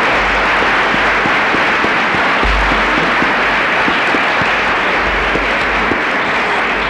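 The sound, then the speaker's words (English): Sustained applause from a sizable audience thanking an organizer of the program, a dense wash of many hands clapping at once, steady and fairly loud throughout with no voices standing out. “I'd like a round of applause”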